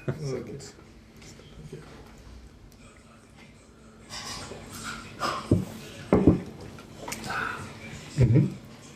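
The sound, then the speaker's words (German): Beer glasses clink together in a toast at the Zypresse, Westbahnstraße 35, several sharp knocks spread over a few seconds, with soft murmuring voices and background clatter in between. “Prost. Symbolisches. Prost. Mit der Maus und dem Elefanten. Ah, schön. Ich muss einfach anstoßen.”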